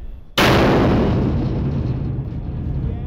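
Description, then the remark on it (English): A cartoonishly gigantic hammer slams into a blue metal dumpster in an empty lot during a performance sound check, with a single loud, concussive boom that lingers as a heavy rumbling, ringing decay for a few seconds. No one speaks. “They're just cartoon gigantic. The sound is absolutely concussive.”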